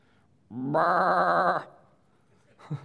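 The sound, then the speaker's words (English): A person imitates a sheep's bleat with one loud, wavering "baa" lasting about a second, followed by a short breathy sound near the end. “That's my sheep sound.”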